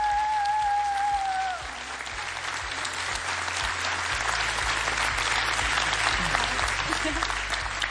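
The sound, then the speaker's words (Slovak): A large audience at the Jonáš Záborský Theatre in Prešov claps steadily during a national final broadcast live on Rádio Lumen, a dense, sustained, loud wash of applause beginning over a fading musical tone and continuing without a break. “A tak pozdravujeme týmto potleskom aj poslucháčov z divadla Jonáša Záborského v Prešove.”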